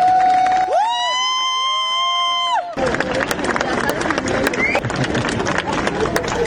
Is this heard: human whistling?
no